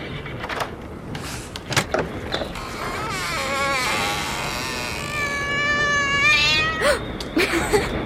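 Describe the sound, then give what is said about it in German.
A cat gives a long, drawn-out meow, then a second wavering one, loud, following a few sharp clatters and knocks against a noisy background. “So habe ich mir Björn aber nicht vorgestellt. Ist ja nur eine Katze.”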